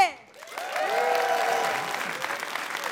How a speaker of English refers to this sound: Keep that applause going for your next act.